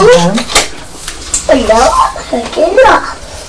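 A female pet at the door cries in a series of high, wavering whines, several drawn-out calls rising and falling in pitch, moderately loud, with faint background noise.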